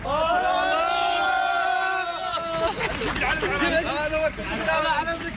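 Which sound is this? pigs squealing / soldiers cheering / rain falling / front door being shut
soldiers cheering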